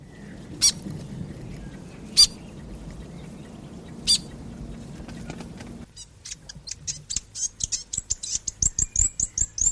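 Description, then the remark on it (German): A New Zealand fantail (piwakawaka) calls: a few sharp, isolated chirps over a low rumbling background, then a quick, steady string of high, squeaky twittering notes. “Zuerst der Fantail, der Pee Waka Waka, dann der Tui und dann der Kia.”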